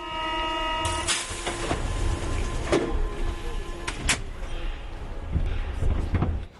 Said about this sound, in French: Mohamed quitte le wagon. Les portes se referment.